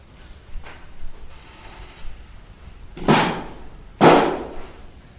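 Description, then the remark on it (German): A chair knocks against the floor twice, about a second apart, each a loud wooden thud with a short ringing tail, preceded by faint quiet shuffling. “Stuhl und Boden, es gibt viele solche Zusammenstöße, wenn man so will.”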